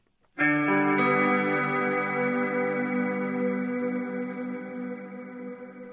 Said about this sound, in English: The chilling sound of an approaching train drifted over the crowd at the former Nazi death camp of Auschwitz today during a commemoration marking the 60th anniversary of the camp's liberation.